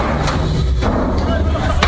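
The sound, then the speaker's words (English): A few sharp, heavy impacts punctuate a constant low rumble as two air conditioners are thrown off the roof of a large mansion, with muffled voices in the background. “They threw two air conditioners off the roof of this house.”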